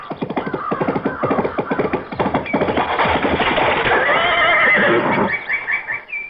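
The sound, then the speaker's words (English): A horse, spurred on by its rider, gallops toward a high stone wall, its hooves pounding in a quick, steady rhythm, then lets out a loud, shrill whinny that rises over the hoofbeats before fading away. “Before I could move, she clapped spur to a horse and headed for a high stone wall.”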